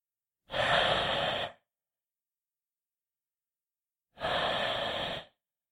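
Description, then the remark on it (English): Two heavy, loud, rough breaths from someone behind the listener, each about a second long and a few seconds apart, with no talking around them. “You hear that behind you. He's breathing.”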